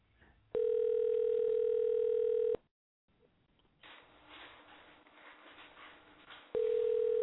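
phone call ringing tone

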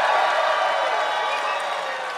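audience cheering

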